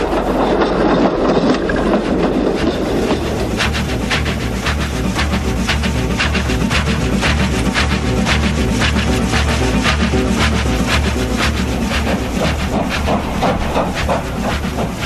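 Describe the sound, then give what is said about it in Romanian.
A train rolls steadily along the rails with a continuous low rumble and repeated clickety-clack rhythm, sustained and fairly loud throughout, with a hissing wash on top and no voices. “Nu mă miști de aici până ce o să cobor din tren, că trebuie să te dai și tu jos undeva, nu?”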